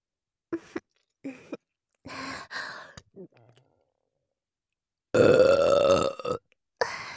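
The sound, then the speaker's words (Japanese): Several short burps from a woman are followed by a long, loud, throaty, crude belch lasting over a second, then a brief final burst, with quiet pauses between. “下品で音の大きい生ゲップ。”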